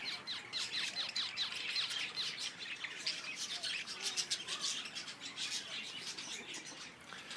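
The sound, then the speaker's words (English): A busy chorus of little zebra finches chattering to one another nonstop with rapid high-pitched chirps and tweets that overlap densely, steady, with no voices. “These are little zebra finches, by the looks of things, chattering to one another.”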